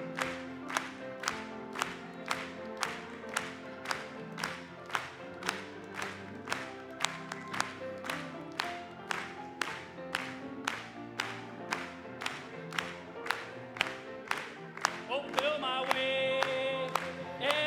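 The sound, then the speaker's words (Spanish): An audience claps for the Lord during a Spanish-language hymn, in a steady, even rhythm of about two claps per second, over sustained music that swells with a bright held chord near the end. “Vamos a aplaudirle.”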